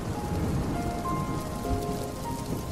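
Steady rain falls and patters on a surface, a dense, continuous wash of drops at even loudness with no voices, over a faint low rumble.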